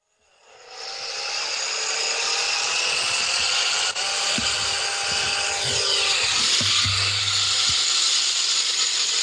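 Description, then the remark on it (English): A car driving sound effect: a steady, loud, broad mechanical whir and roar after a quick fade-in, with a few low thuds and a deeper hum partway through. No one speaks. “Here, car driving sound effects.”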